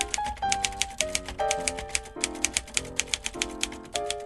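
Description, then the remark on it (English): Crisp clacks of manual typewriter keys struck in a quick, fairly even rhythm, around sixteen strikes in four seconds, over a soft sustained tonal background. “It's very staccato. You get push and lift, push and lift, push and lift.”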